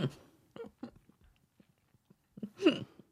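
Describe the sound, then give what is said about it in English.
Crunchy chewing on a snack containing walnuts: a few sharp, irregular crunches and small clicks with quiet gaps, ending in a louder burst that carries a brief voiced sound. “It has walnuts. Yeah, I can tell. It sounds like a walnut.”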